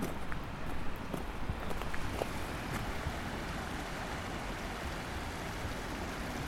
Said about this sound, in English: You can hear the river running quickly. It is full of mud and silt from the rainy day, that is today.